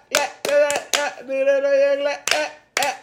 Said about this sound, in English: That's, I heard you over there clapping. I was like, okay. I didn't know your clap.